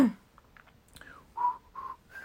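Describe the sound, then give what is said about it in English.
A person wearing lipstick whistles a simple tune, a short run of breathy, slightly wavering notes with brief gaps, the later ones held longer and louder. No one speaks. “Ooh, I've whistled so long.”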